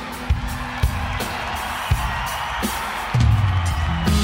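An audience applauds in a steady, dense wash of clapping with scattered cheers and whoops, occasional low thumps, and a low sustained tone rising beneath it near the end.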